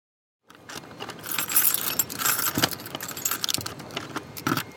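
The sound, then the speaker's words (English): Keys jangle and scrape in the top and bottom locks of a heavy apartment door, a steady metallic rattling with sharper clicks and clinks as the locks are worked, fairly loud and with no one speaking. “You have to kind of twist the top lock just the right way and the bottom lock and then kind of push with your shoulder.”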